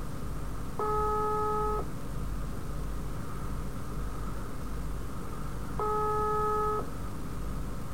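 Two ringback tones of a phone call ringing unanswered, each about a second long with a long pause between, over a steady hiss of background noise.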